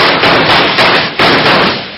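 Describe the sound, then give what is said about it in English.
A quick volley of several loud, sharp gunshots, roughly four or five bangs in about two seconds, each a harsh burst that blurs into the next, with no talking. “Shoot, you jughead!”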